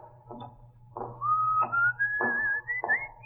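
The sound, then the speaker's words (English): A single rising whistled tone, coming out of a door, slides steadily upward, accompanied by soft rhythmic thumps like footsteps and a low steady hum underneath; no voices. “What's your whistling?”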